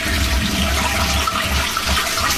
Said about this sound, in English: If I can get my cats to flush the toilet like that, I'd be happy.